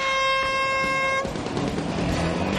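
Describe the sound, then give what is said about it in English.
A single loud, steady horn blast with a bright, buzzy tone, signalling the start of a boat race in wind, sounds for about a second, then cuts off into a continuous churning, rushing noise of the boat's propeller churning up the water. “On the sound of the horn, wet your winkle pickers!”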